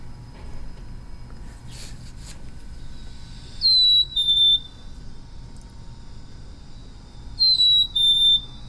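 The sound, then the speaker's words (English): A chickadee's spring mating call, sung to attract a mate: a clear, sweet two-note whistle, the first note higher than the second, sung twice a few seconds apart over a low, steady background rumble. “And chances are you've probably seen or heard them before, and this is what their call sounds like.”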